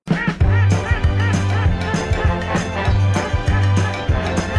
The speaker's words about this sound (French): Va te mettre au coin, coin, coin, coin, coin, petit canard.